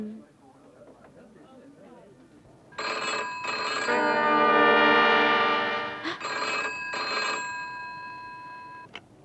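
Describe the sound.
A telephone rings loudly and close by in repeated electronic bursts, one held longer than the rest, after a few seconds of faint background voices.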